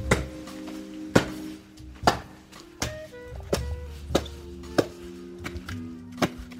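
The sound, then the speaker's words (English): On a patio in Kyiv, Ukraine, a man chops wood with a small axe, landing about eight sharp, solid thwacks at a fairly steady pace, with a faint sustained tonal hum running underneath. “he's chopping wood with this little axe.”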